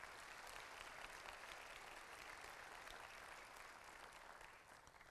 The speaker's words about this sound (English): I think you ought to give God a hand clap for that.